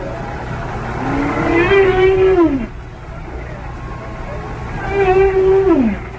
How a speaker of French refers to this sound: Et là, on entend des enregistrements de bruits de baleines enregistrés sous l'eau.